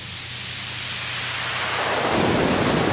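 Steady filtered noise rumbles like a light thunderstorm, a dense hiss with a low rolling undertone that swells and brightens toward the end, no voices present.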